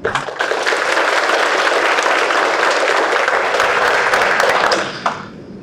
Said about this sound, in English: All right, now I know, again, there are a lot of family and friends in here and I ordinarily wouldn't do this, but if you want to applaud the defendants and all involved, you may do that at this time.